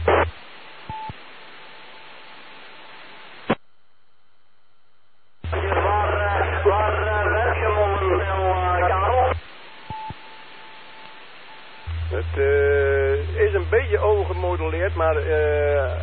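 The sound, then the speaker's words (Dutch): A radio channel on the Meppel repeater (145.6500) keys up in several bursts, carrying a steady low hum and warbling, overlapping tones and garbled voice, as another station transmits over it; short silent gaps separate the bursts. “Ja, er is iemand die er overheen ligt te drukken en die ligt te zeggen waar ik over gemodelleerd ben.”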